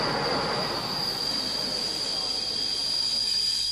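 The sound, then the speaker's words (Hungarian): A pilgrim train from Hungary to Transylvania rolls steadily along the rails, its wheels letting out a sustained high-pitched squeal over a dense rumbling roar, loud throughout. “Gyalog, motoron, autóval vagy vonattal, ahogy a zarándokvonatok utasai, úgy velük együtt szinte az egész Csíki medence útra kelt ma reggel.”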